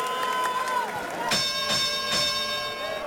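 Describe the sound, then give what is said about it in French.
A wrestling crowd at a Saturday wrestling show in a church basement in Montreal, Quebec, yells and cheers loudly and continuously, with shrill voices rising above the din and two sharp bursts of louder shouting. “Le public hurle.”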